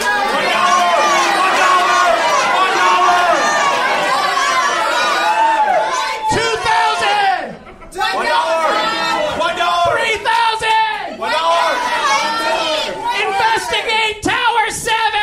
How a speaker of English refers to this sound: I want you to pretend like you're the Price is Right audience and just start yelling prices out like you would on the show, all right? Go ahead.